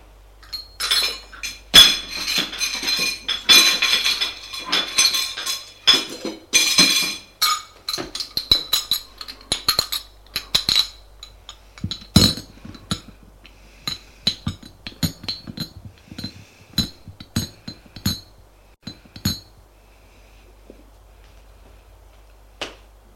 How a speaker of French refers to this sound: Le bruit du couvert.